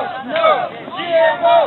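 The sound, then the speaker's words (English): A crowd of voices shouting together in rhythmic bursts, rising and falling in two or three loud swells, like protesters chanting a slogan in unison, at a protest against Monsanto's genetically modified crops and glyphosate. “It all happened so fast it scared a lot of people. There were protests.”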